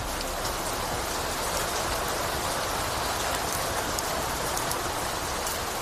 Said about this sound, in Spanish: Unas intensas lluvias que dejaron más de 70 llamadas en el 112